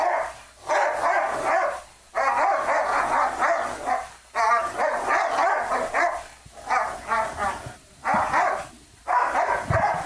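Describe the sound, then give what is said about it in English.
A dog named Shelby barks loudly in long, rapid runs of harsh, mid-pitched barks, stopping briefly between each burst before starting again; no one speaks. “We're coming to you live with Shelby, the racist dog.”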